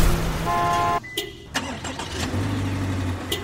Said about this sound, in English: Remote engine start via smartphone in the most advanced Subaru Legacy ever.